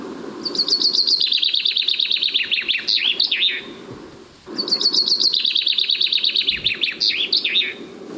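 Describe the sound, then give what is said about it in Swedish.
A common chaffinch sings two full phrases from some distance, each a rapid descending trill of bright notes ending in a flourish, with steady low background noise and no talking. “Ja, vi har en bofink lite avlägset här. Så här är sången.”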